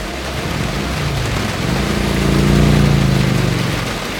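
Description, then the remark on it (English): Steady rain hisses across the whole recording on a hot day during a long road journey on a bumpy road full of potholes and construction, while a vehicle engine drones underneath, its low hum swelling and rising in pitch midway before easing off. No one speaks. “So we got back on the road, refreshed, and then we got a little bit more refreshed because it started to rain.”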